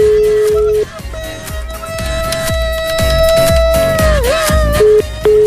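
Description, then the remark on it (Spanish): A phone call rings out with no answer: a steady electronic tone holds for several seconds, briefly shifting pitch, over a pulsing rhythmic beat in the background. “Vamos a volverle a marcar, Espero que conteste, si no, si vamos a tener que meter a la mamá.”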